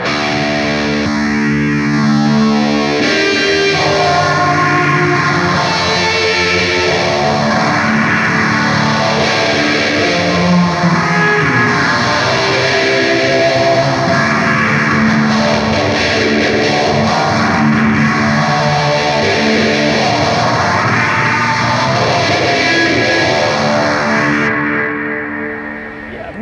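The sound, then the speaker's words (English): An electric guitar plays through a Disaster Transport modulated delay and reverb pedal blending the two, its notes smearing into sweeping, wavering swells that wash in and out rhythmically, loud and dense, with no talking, fading near the end. “It's like a modulated reverb or modulated delay and reverb that you can kind of blend the two together.”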